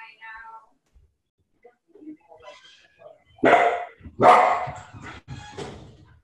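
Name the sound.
dog barking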